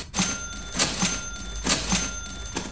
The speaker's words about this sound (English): Darling, can you come and have a look at this? I think there's something wrong with our doorbell. Really? What's that? Well, just listen to the sound it makes when you press it.